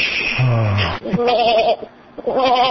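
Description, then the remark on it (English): A person imitates a sheep, letting out three wavering, quavering bleats in quick succession, the first lower and rougher, the next two higher and trembling, loud and unaccompanied. “It sounded like a sheep.”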